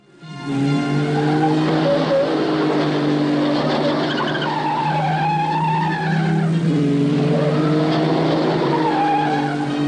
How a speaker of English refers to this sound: Fuel, a change of driver, and they're off again. Tyres screaming as they come round the tight corner.